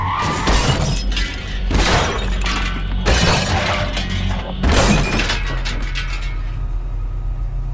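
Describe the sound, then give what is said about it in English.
A car crash as a car's tires hit a patch of black ice and it flips three times before landing upside down: four heavy, loud impacts roughly a second apart, each bursting with shattering glass and scattering debris, over a steady low engine rumble that continues after the last hit. “But as luck would have it, our tires hit a patch of black ice, and as they turned, the car did not.”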